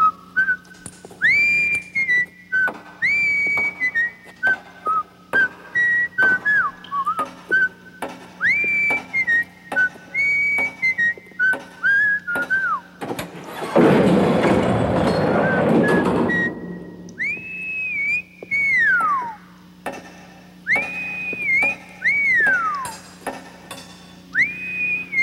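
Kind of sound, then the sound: human body sound, man whistling a tune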